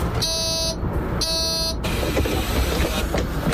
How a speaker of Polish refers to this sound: Jedziemy właśnie autobusem wodorowym.